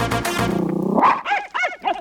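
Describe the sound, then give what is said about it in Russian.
A dog gives a drawn-out, wavering howl, then breaks into a quick run of three or four sharp, yelping barks, loud, with no one talking. “Это собака, я убедил.”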